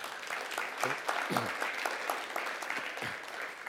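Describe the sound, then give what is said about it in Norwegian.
Steady applause for Jesus at a church service marking Pentecost, a dense rattle of many hands clapping at moderate volume, with a few brief voiced shouts or cheers rising out of it. “Skal vi gi en god applaus for Jesus?”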